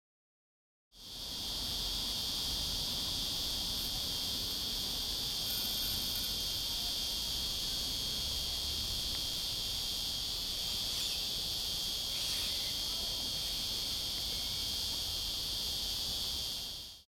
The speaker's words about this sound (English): Most people recognize this sound as cicadas, but I've always considered it the sound of heat. This episode was recorded in Sydney. I couldn't help but hear all these cicadas rattling in the tops of the palm trees as I walked through Redfern